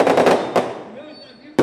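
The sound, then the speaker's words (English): Fireworks crackle and bang outdoors, signaling that a street party is about to start: a quick rattling burst of pops, then a single loud bang that echoes away, and one more sharp crack at the very end. “Fireworks signal the street party's about to start.”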